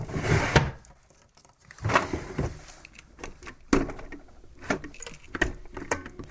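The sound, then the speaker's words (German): Someone rummages through a small bedside table drawer: irregular clatters, knocks and scraping shuffles come in uneven bursts, moderately loud, with no talking. “Es fällt einem immer einfacher zum Umenühlen, zum Beispiel im Nachttischli.”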